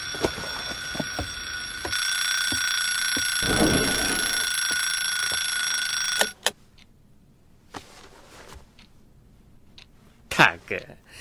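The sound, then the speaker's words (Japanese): An alarm clock belonging to Ippo rings loudly and steadily for about six seconds with a shrill, buzzing tone, then cuts off abruptly, leaving quiet rustling and a few soft knocks. “ああ、一歩の目覚まし。”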